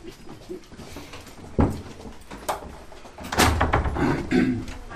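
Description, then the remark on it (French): A heavy fire door in a theatre swings shut with a solid thud, followed by a louder, rattling clunk as it latches, over a murky background of indistinct noise. “Les portes, il y a beaucoup de portes dans les théâtres.”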